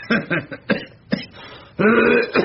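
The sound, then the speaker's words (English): A loud run of short coughs, four or five quick hacking bursts with brief pauses between, then a longer strained, voiced hack and one last cough. “Oh, you're coughing, are you?”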